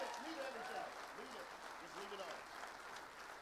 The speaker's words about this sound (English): Clap for my kids. Give them a hand. They did great.